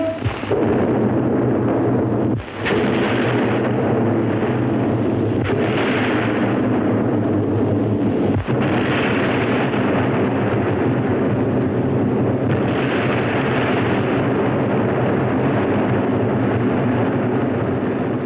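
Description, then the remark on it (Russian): Three heavy artillery explosions on a steep riverbank, closing the Soviet film Chapaev, boom a few seconds apart over a dense, continuous roar of rumbling battle noise, loud, with no voices. “Три взрыва на крутом берегу завершают картину, которую газета «Нью-Йорк Таймс» назвала лучшим звуковым советским фильмом.”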